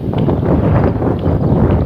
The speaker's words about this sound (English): heading north. I got the wind right in my face.